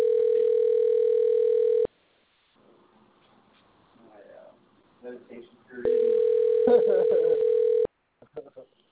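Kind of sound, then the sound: signal or alarm, telephone ringback tone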